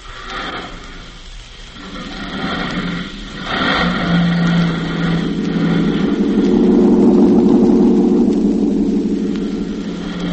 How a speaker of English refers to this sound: And then quickly, he gets in the cab and drives off.